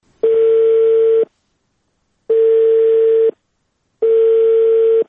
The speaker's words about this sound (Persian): متاسفانه بعدن که چند بار تلفن کردیم ما موفق به برقراری ارتباط با محترم آقای محمد اسماعیل کاووسی رئیس روابط عامه وزارت صحت عامه نشدیم. به طور مثال تلفن‌هایشان چنین عکس العمل نشان می‌داد برای ما.